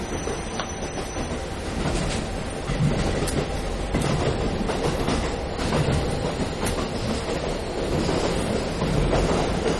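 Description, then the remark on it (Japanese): A JR Hokkaido train, the 2429D on the Nemuro Main Line, runs steadily on the rails, recorded inside the car: a loud, continuous rumble with recurring clickety-clack beats as the wheels pass over rail joints. No one speaks. “本日は JR 北海道をご利用いただきましてありがとうございました”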